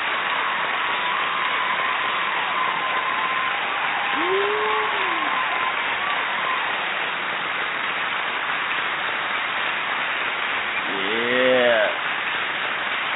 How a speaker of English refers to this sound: And one more time. I wanna hear you give it up. Come on. Yeah. Don't you love that applause?